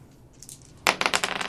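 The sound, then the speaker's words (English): Dice are thrown onto a hard surface during a game roll, landing with a sharp clack and then rattling in a quick series of bright, bouncing clicks, with no voices. “And then I threw the dice because I was so pissed.”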